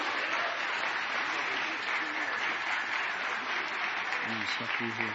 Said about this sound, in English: Amen. Amen. Everybody give them some applause, and we love you guys.